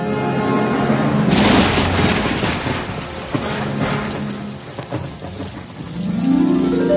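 Steady, heavy rain pours down with a dense hiss, while deep thunder rumbles low underneath, swelling at the start and again near the end. No voices are heard.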